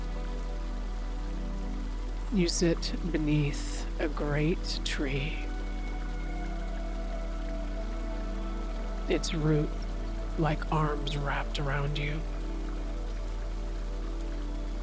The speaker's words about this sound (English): There is a scent of cedar and the sound of gentle water nearby.